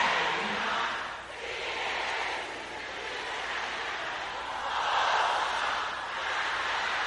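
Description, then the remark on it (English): A loud, dense roar of many women's voices in an audience shouting a prayer together, sustained for several seconds with swells and dips, the words blurred into a single crowd wall of sound. “Sisters, now say it loud and clear.”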